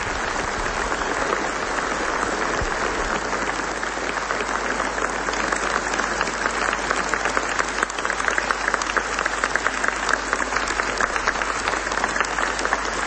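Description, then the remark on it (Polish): Sustained applause from an audience for a group of scouts fills the whole stretch, a dense, steady patter of many hands clapping at even loudness with no voices over it. “Myślę, że to jest wzorowa młodzież, której te brawa się należą.”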